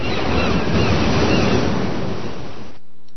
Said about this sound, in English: And it had no wind. When there is no wind, you hear the sound of seagulls making their noise over ocean waves.